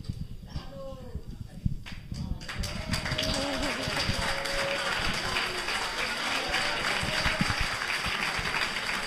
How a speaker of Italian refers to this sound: Beh, io sono commosso, ringrazio tutti per l'applauso.